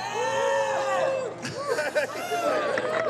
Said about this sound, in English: I thought we were gonna have hecklers. I mean, that's an importer getting shout outs from the crowd. That's pretty exciting.